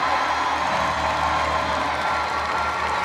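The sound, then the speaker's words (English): A large audience cheers, claps and shouts together for about 12 seconds, making all the commotion it can in a loud, steady roar without pause, with scattered whoops rising out of the crowd noise. “If you've ever seen God do an amazing thing, you got 12 seconds to make all the commotion you can possibly make right now.”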